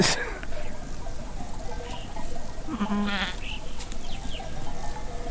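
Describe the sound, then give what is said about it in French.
A sheep bleats once, a wavering mid-pitched cry, against a steady outdoor background with faint rustling and other animal sounds in a mountain pasture. “On a retrouvé ces brebis qui étaient...”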